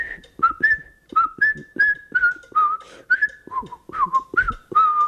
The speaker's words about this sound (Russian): А у нас еще из джаза остался такой сигнальный свист, и этим свистом тогда пользовался весь театр. Это была фуга Баха. Я сейчас попытаюсь ее просвистеть.